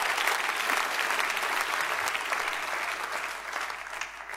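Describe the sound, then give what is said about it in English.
A church audience applauding steadily, a dense wash of many hands clapping at a loud, even level throughout, with no voices rising above it. “I appreciate every single person who applauded, but do you understand the power of the one getting rescued?”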